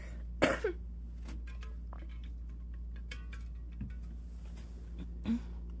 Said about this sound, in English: I hate to do this at this very second, but I need to drink some water, clear my throat, and reapply my lip balm. Be very quick.